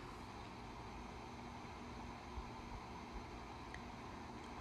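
Cars driving by on a main road make a steady, low rumbling wash of traffic noise with only slight swells in loudness and no voices.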